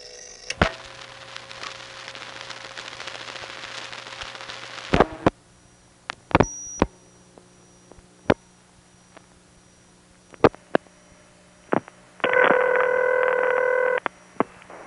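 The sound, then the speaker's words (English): A crossbar telephone switch clunking while dialing a New Jersey recording from a Crossbar 1 line: a steady hiss, then a scattering of sharp, irregular clunks and clicks like doors opening and closing, a brief high beep, and a loud buzzing tone near the end. No voices. “Here's the recording for New Jersey, and again, notice that doors opening and closing sound that we get dialing it from my Crossbar 1 line.”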